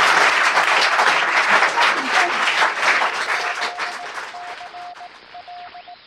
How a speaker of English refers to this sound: and can you all give a round of applause to our wonderful 5 veterans for their service?